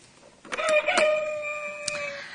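A rooster crows once, a loud, drawn-out cock-a-doodle-doo with a bright harmonic tone, close by and clear, fading after about two seconds with no talking.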